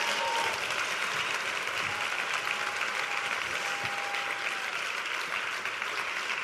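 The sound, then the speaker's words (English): Sustained audience applause as guests go back to their seats, a dense steady wash of many hands clapping at an even loudness throughout, with no voices standing out above it. “Let's give these guys a hand as they go back to their seats.”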